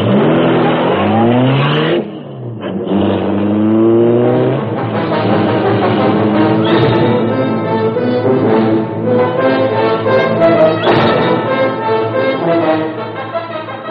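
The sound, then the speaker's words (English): The Black Beauty, the Green Hornet's car, roars loudly, revving up through rising and falling gear shifts as it accelerates hard and speeds away, a steady powerful drone filling the whole clip. “A section of the wall in front raised automatically, then closed as the gleaming Black Beauty sped into the darkness.”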